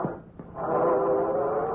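A train horn at a railroad crossing sounds one long, steady, low blast that begins after a brief pause and holds at an even, loud level to the end.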